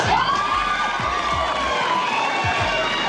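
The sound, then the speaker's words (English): A crowd of women screams and cheers loudly and continuously, a dense, high-pitched wall of shrieks with no pauses. “These women would scream for anything.”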